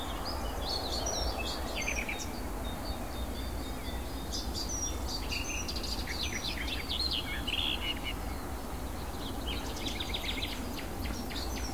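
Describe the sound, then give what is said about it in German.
A songbird delivers a fast, busy song of rapid, varied chirps and short trills, bursting out in hectic runs over a steady background hiss, with no one talking. “Dann ist es sehr hektisch vorgetragen und laut.”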